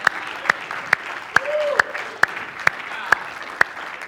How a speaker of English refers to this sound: Somebody clap your hands and shout to the Lord now.